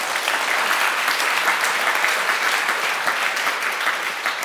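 Steady, sustained applause from an audience welcoming an arriving guest, a researcher at the Clingendael Institute, fills the whole stretch, a dense wash of many hands clapping at even loudness with no talking over it.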